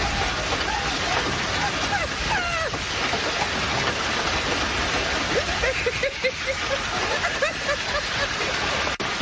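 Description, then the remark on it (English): Hail from a severe hailstorm in Florida pelts a car in a dense, unbroken roar of rapid impacts, steady and loud throughout, while a man lies across the car's sunroof to protect it and the woman filming laughs hysterically in high-pitched bursts. “When a severe hailstorm came through, Manny did the only rational thing a Floridian would do.”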